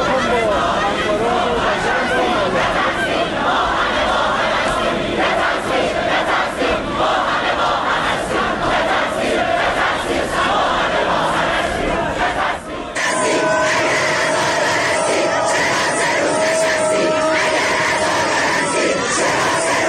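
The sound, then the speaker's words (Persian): A large crowd of students at Shahid Beheshti University in Tehran chants protest slogans against a ceremony held by the university's Basij for those killed on a passenger plane, loud and rhythmic in unison, voices surging together over about twenty seconds, with a brief break before the chanting resumes in a slightly different tone. “در دانشگاه بهشتی تهران گروهی از دانشجویان این دانشگاه به مراسمی که از سوی بسیج این دانشگاه برای کشته شدگان هواپیمای مسافری برگزار شده بود اعتراض کردند. به بخشی از صدای شعارها گوش کنیم.”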